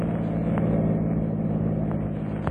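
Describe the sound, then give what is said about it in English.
A car's engine hums with a steady, low drone as it threads through New York City traffic on a September day after a long drive from the country, holding an even loudness throughout with a couple of faint clicks and no voices. “And on this September day, as they thread their way through New York City traffic after a long drive from the country”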